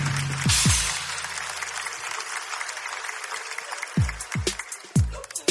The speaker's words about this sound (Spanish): Oye, nada, un fuerte aplauso para la selección de hockey para mi amiga.